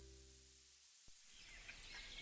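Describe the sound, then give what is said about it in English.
Soft birds chirp in scattered high tweets in the background of a commercial. They come in after a brief low hum and a single click, with no one talking. “Those birds in the background of this commercial, for example, when exactly did you notice they're gone?”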